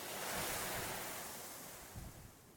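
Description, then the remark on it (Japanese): Steady ocean surf washes in a broad, hissing roar, with wind rushing over it and a soft swell that slowly fades; no voices. “なんかね、こういう自然の海の音、風の音、こういうのもね、無意識なんだけどとても心地いいなと感じますよね。”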